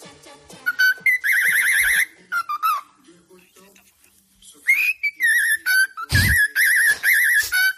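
A bird whistles the Pink Panther theme in clear, high, warbling notes, phrase by phrase with short pauses, and a brief noisy burst cuts in near the end.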